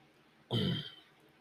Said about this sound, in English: I definitely need a cough button. I've thought about using the mic on-off switch, but it's a little kludgy, so I'm not sure that'll work, but we'll see, because I'm sure you're tired of hearing me cough.